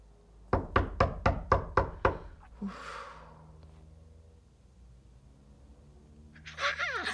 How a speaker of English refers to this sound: After three knocks, most callers will bug off.